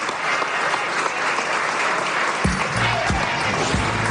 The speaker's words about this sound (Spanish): Aplaudiments per Lewandowski, que ja ha rebut aquest premi, que l'acredita com a màxim golejador de la Lliga la passada temporada.